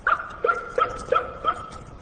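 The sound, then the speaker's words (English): A quick, evenly spaced run of about five high-pitched yips from an animal, each short call trailing off into a faint echo, with no voices present. “Out of nowhere came this mysterious yip-yip, like a fox terrier dog, a high-pitched yip-yip, and almost immediately an echo, like that.”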